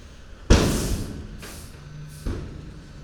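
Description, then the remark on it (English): Heavy metal gates on an asphalt dump truck bang shut as the hoppers are banged to jar the load loose, one loud crash with a ringing decay followed by two softer clangs, over a low, steady engine rumble. “Those big bangs and crashes are the gates of the dump truck dumpers. Hoppers banging.”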